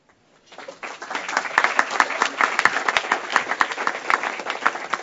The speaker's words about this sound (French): Nous les applaudissons deux fois plus fort parce que c'est la première fois que nous avons deux représentants féminins.